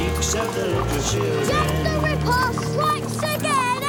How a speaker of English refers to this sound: Horse-drawn carriages trundle this way and that along the road.